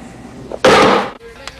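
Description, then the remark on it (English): In a kitchen, a man slams a knife forcibly down on a chopping board in one loud impact that rings briefly before fading. “Then, with a look of frustration, he slams a knife forcibly down on a chopping board.”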